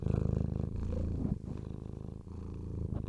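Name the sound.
cat purring near microphone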